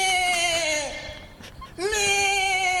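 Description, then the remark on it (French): A person imitates a goat with two long, loud, nasal bleats. The first tapers off and breaks, then a short pause, and the second rises sharply before holding steady. “Maintenant, la chèvre.”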